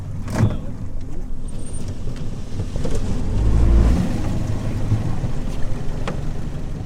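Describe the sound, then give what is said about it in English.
A small motorboat engine drones steadily on a small lake in Missouri, steered by a fisheries biologist toward a tiny island, a low rumbling hum with wind buffeting the microphone and water rushing beneath, swelling slightly louder midway through. “After what's just a 3-minute boat ride, we spot our destination that looks like a mini island.”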